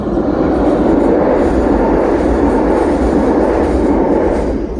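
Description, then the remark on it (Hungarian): A train passes on the other track of a railway line, a steady, loud roar of wheels and cars on the rails that holds constant throughout with no voices. “Kurvan innék egyet a vonatnak, pont a másik sinen ment, nem látszódott.”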